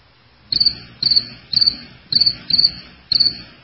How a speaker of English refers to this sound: That was your cue. You can speak. Oh, I heard, no, I heard crickets.